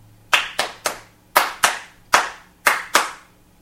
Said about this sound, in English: Now, this is purely rhythmic music. Here is the basic motif. It's for two performers, each of whom claps. So there is no melody. It's all percussive in the sense of clapping. So this is the basic.